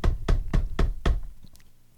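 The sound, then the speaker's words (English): Five firm, evenly spaced knocks on a house door, loud with a solid low thud, followed by a brief quiet tail with no voices. “Let's knock on the door.”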